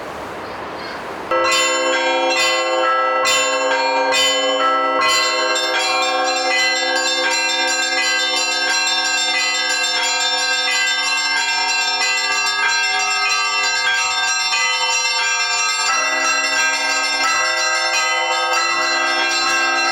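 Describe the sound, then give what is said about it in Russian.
Church bells, donated to a newly opened church, ring out loudly after a brief quiet start, with several rapid struck strokes at first, then a dense, sustained peal of overlapping ringing tones that continues throughout. “Господи, гласом звона сего священного, всякое стремление пленности от сердца моего отжени, беспечно мя на молитву, всякое дело благую силу своей сотвори.”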